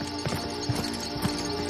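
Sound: horse hooves clip-clopping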